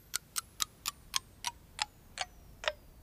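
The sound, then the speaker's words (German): A clock ticks on its own, about nine crisp, clear clicks at roughly three per second, the gaps between them gradually stretching so the ticking slows toward the end. “etwa ein Raumschiff mit fast Lichtgeschwindigkeit an der Erde vorbeiflitzen würde und der Pilot dabei einen Blick auf unsere Uhren werfen könnte, dann würden die Uhren in den Augen des Piloten ganz langsam ticken.”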